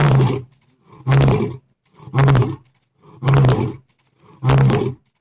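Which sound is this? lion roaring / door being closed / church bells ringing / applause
lion roaring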